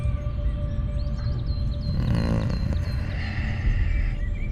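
A wolf growls in a low, continuous rumble that swells into a harsher snarl midway through, fairly loud, with faint high chirps in the background and no talking.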